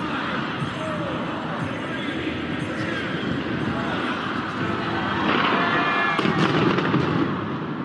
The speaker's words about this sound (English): London welcomed the new year with a pyrotechnic display along the River Thames as the iconic Big Ben struck midnight.